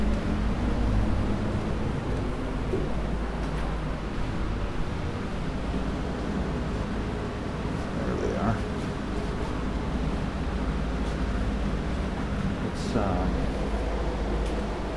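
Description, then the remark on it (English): An air conditioner and a fan run in a living room, making a steady, unbroken whooshing drone with a low hum underneath, constant in level throughout, with a couple of faint brief sounds rising over it. “It's the air conditioner and a fan here running in the living room.”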